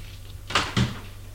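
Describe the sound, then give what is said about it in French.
A door swings shut: a brief whoosh followed by a solid low thud as it latches, then quiet. No voices are present. “Ferme la porte.”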